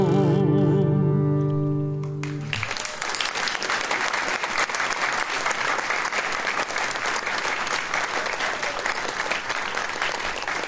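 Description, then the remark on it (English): A sustained musical chord rings out and cuts off, and an audience bursts into loud, steady applause that continues evenly to the end, dense with no voices standing out. “As I tell the young people when I'm subbing, No hard applause, just throw your lunch money.”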